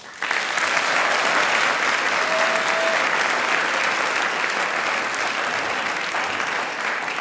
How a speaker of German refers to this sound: ihr könnt es ruhig mitklatschen daheim, weil die haben den Schwung schon vorgegeben für die kommenden 2 Stunden mit einem riesengroßen Applaus.